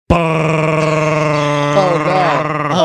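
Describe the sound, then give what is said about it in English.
A voice imitates the air conditioning of a used car with a steady, loud, buzzing drone held for nearly three seconds, its pitch wavering and rising slightly toward the end. “Used car with the wonderful air conditioning that goes like this.”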